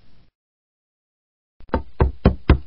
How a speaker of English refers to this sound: Oh, someone's knocking at the door.